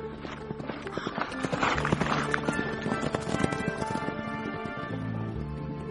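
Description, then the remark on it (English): A horse in a herd grazing in a lush green meadow whinnies while hooves clip-clop steadily, with busy outdoor animal sounds layered together at a moderate, fairly constant loudness. “In a lush green meadow, a herd of animals is grazing. One of them neighs.”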